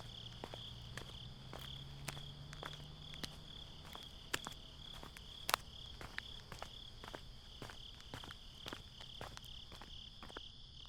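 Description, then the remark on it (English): Crickets chirp in the dead of night in a steady, continuous high-pitched drone, joined by scattered sharp clicks and a faint low rumble early on, with passing cars, and no voices present. “You lay there during the dead of night, restless, still waiting as the crickets and the sounds of the passing cars fill your ears.”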